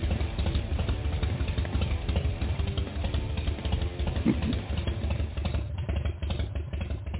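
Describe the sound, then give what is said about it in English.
A Harley motorcycle engine rumbles steadily with a deep, loping, uneven idle, its low throb and mechanical clatter continuous and loud throughout, with no voices. “Yeah, sound of a Harley.”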